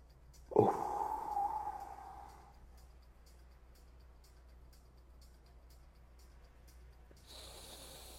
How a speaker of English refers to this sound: so we're just gonna breathe into your nose, hold it out. So inhale, exhale, out, hold. It's all the same amount. So 4 seconds. Let's do 4 seconds.